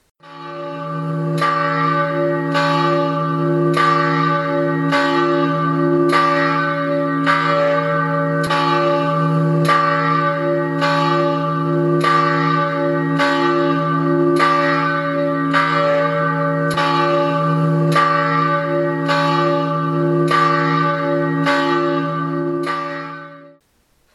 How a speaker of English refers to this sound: Let's pause for the ringing of the bell.